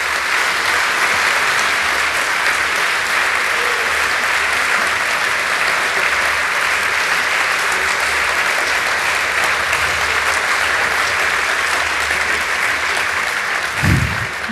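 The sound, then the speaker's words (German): Steady, sustained applause from an audience at the end of a talk on surveillance by intelligence services, a dense crackle of many hands clapping at an even loudness throughout, with a brief low thump near the end. “Ich glaube, das war schon ein recht ordentlicher Applaus.”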